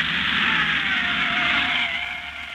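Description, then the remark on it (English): A taxi brakes hard to a stop, its tyres squealing in a loud, sustained screech over engine rumble that eases slightly as it slows. No one speaks. “Hold it, driver.”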